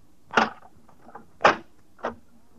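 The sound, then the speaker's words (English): Three heavy, loud thuds of pounding on a heavy wooden door, irregularly spaced with a couple of faint softer taps between the first two blows. “The way you pounded on that door, I thought you were trying to knock it down.”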